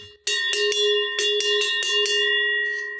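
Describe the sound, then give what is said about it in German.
A large cowbell clanks repeatedly in an uneven rhythm, about eight loud metallic strikes, its ringing tones sustaining between hits and fading at the end. No one speaks. “Niklas hat einen schweren Körper und eine Riesenglocke”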